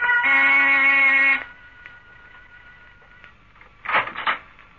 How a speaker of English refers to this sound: I rang the door buzzer.